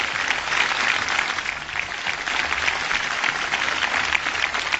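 crowd, ovation

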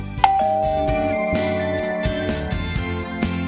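household object, doorbell ringing

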